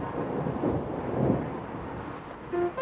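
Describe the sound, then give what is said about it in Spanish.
A deep roll of thunder swells and fades over a steady hiss of rain beginning to fall as a storm approaches under dark clouds. A brief higher tone cuts in near the end. “Se avecina una buena tormenta. Milú continúa olisqueando. ¿Dónde se ha metido Milú? Comienza a llover.”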